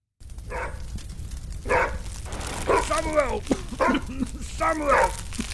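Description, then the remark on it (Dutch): A dog barks in a series of about five loud, pitched bursts, some drawn out into whiny, yelping tones, over a steady low rumble of background noise; the dog stands beside Sam, who lies unconscious in a burning stable, and barks to warn a group of monks. “Een hond die bij Sam staat, waarschuwt blaffend een stel monniken.”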